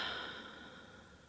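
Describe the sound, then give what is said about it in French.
A single soft, airy breath fading out over about a second, a slow exhale through the mouth after a deep inhale through the nose that fills the belly and chest, as part of a guided relaxation exercise. No one speaks. “Pour commencer, prenez tout d'abord une profonde inspiration par le nez en gonflant le ventre et la poitrine et soufflez par la bouche.”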